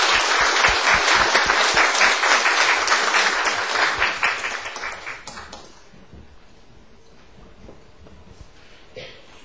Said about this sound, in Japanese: 拍手を持ってお迎えします。